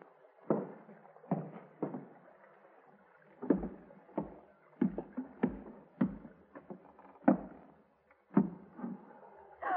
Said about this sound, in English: Yeah, small boat just tied up alongside. Think that's our man? Yeah, must be.